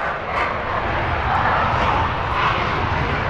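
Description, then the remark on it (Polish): A steady, loud roar of an aircraft engine fills the whole stretch, broad and rushing with a slight rise and swell, as an aircraft takes off at the 32nd Air Base in Łask, Poland. “To, co tam stoi i to, co przed chwilą startowało, ile dzieli?”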